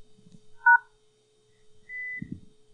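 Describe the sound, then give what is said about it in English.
A mobile phone keypad beeps as the pound key is held down to lock the phone: a brief two-tone keypress blip, then after a pause a longer, steady high electronic beep, clear with no talking over it. “And you heard a beep, right? The phone is locked, which means you cannot get out of it, except by doing the following.”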